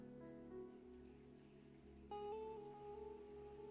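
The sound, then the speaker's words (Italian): A soft, steady patter like light rainfall, made by people rubbing the palms of their hands together rather than real rain, with faint sustained tones running underneath and no talking. “Non c'è la pioggia. Eppure io sento un rumore di pioggia.”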